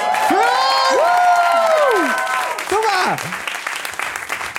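Steady applause with loud, rising and falling cheers and whoops from a crowd, the cheering strongest in the first two seconds before a few shorter shouts and clapping trail off.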